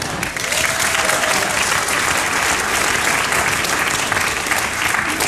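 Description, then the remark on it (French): A crowd of 49-year-old women applauds steadily, a dense, even wash of many hands clapping that holds at the same loud level for several seconds without pause. “Ça, ce sont des applaudissements de femmes de 49 ans.”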